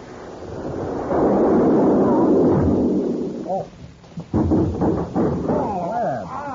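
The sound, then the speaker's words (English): A loud blast from a cannon shooting a man out of it erupts into a long, rumbling roar that fills the first few seconds, then fades as excited voices and crowd reactions take over. “I didn't know that a fellow was going to be shot out of the cannon.”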